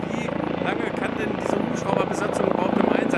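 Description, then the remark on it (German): A helicopter flies while bird warning markers are mounted on an overhead power line, in calm, clear, dry weather, its rotor thumping in a steady, rapid beat beneath a loud engine whine, with a voice talking over the continuous noise. “Und entsprechend muss jetzt heute mit einem Helikopter mit hoher Konzentration und Präzision gearbeitet werden, damit diese Vogelwarnmarker an der Leitung montiert werden können.”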